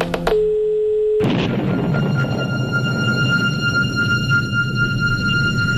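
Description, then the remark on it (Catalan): A steady electronic tone holds for about a second, then cuts into loud, continuous radio interference: hissing static with thin whistling tones running through it, no voices. “que esteu sentint interferències, que això és Catalunya Ràdio”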